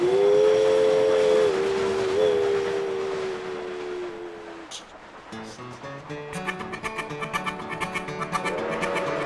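A steam train whistle blows one long, steady, wavering note, then fades into a quick rhythmic chugging of the locomotive climbing uphill that grows louder, with faint hissing steam.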